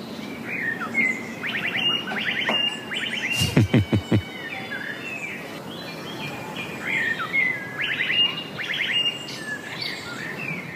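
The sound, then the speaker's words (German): A blackbird sings outdoors, repeating bright, electronic-sounding whistled phrases that mimic the alarm an e-scooter gives when moved without being unlocked, with a brief burst of low, rapid thumping pulses partway through and steady background ambience. “Und mittlerweile, diesen Frühling, sind es mindestens 8 Amseln, die dieses Geräusch nachmachen.”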